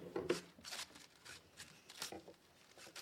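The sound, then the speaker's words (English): Pieces of newsprint, standing in for a comic book, are torn in a series of short, crisp rips, several bursts spread over a few seconds, fairly quiet with no voices. “Your comics could get torn.”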